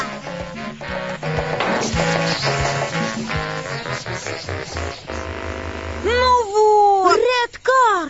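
Upbeat music plays for several seconds, then gives way to a kitten's loud, high-pitched meows, a couple of drawn-out rising and falling cries near the end.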